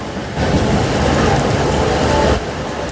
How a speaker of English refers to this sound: You know what I've noticed here on the beach behind us, and I hope that the listeners can hear the sounds from behind us of the beach rolling in. Let's be quiet for just a second.